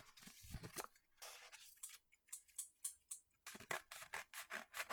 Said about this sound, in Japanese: じゃあ、ちょっとね、開けていくよ開けていくよ。ね、袋で届いたからちょっとハサミ使います。